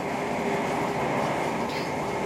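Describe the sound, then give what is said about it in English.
Steady, dense rumble of a moving train heard from inside coach J, the first class carriage, on a train going to Norwich, with continuous mid-range roar and faint rattling, fairly loud and unbroken throughout, no voices. “I am sitting in coach J, which is our first class carriage.”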